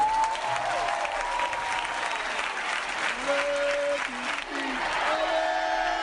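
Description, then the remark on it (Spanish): A large crowd at the final concert held at the Vicente Calderón stadium, on 24 June 2017, applauds and cheers steadily throughout, a dense roar of clapping with whistles and shouts rising out of it, loud and continuous. “Y despedir a este estadio como se merece, un aplauso de todos.”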